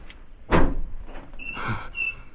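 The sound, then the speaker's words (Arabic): A door opens with a sharp clunk of the latch, followed by a softer creaking slide and a faint squeak as it swings, opened to let in the arriving sheikh; fairly clear, with no voices. “ألم أقل لكم سأذهب لأفتح الباب.”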